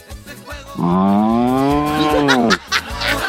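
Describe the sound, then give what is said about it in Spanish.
A man on a radio call, asked how the cow goes, imitates a cow with one long, loud, drawn-out moo lasting nearly two seconds, with some background noise around it. “¿cómo hace la vaca?”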